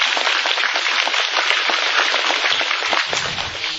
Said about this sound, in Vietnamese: Dạ, chúng ta đây dạ, xin tán thán những gì Phật tử mới, xin đại chúng cho một tràng pháo tay.